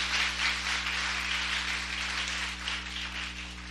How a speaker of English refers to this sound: So I want to thank God for that this morning. Amen. You can clap for that.